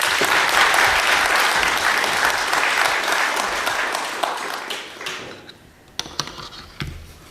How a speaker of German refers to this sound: Dann noch mal einen Applaus.